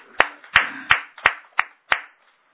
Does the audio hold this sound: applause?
yes